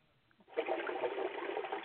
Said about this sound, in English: Before long, we'll hear Archie Bunker flushing the toilet upstairs.